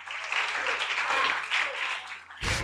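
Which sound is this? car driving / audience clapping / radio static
audience clapping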